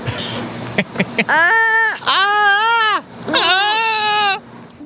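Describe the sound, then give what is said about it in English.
A sloth call: three loud, drawn-out bleating cries with a wavering, slightly nasal pitch, each lasting about a second, preceded by a few brief clicks and no talking. “So I'm going to say in like a lion, out like, and I had never heard this animal speak and the sounds of this animal before, out like a sloth.”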